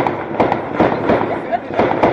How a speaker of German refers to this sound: Wie lange dauern denn die Feuerwerke hier so? 40, 50 Minuten? Oder?